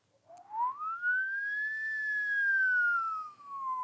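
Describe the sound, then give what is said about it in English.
A person's voice imitates a siren: a single rising wail that sweeps up quickly, holds high, then slowly falls over a few seconds. It's clear, with no other sounds. “And when I'm in the back seat of my mother's car and she's going too fast, I do a pretty good siren.”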